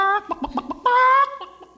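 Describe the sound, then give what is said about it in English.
A man imitates a chicken with his voice, giving a drawn-out squawk, a quick run of short clucks, then another long nasal bawk that trails into a few softer clucks, loud. “He taught him how to do chickens, of course.”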